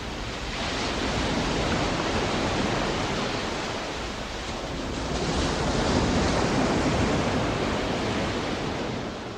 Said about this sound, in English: … and his friend used this early computer to edit and manipulate the recordings. They kept working until they felt like it captured the majestic sound and feel of the ocean. … called this track ….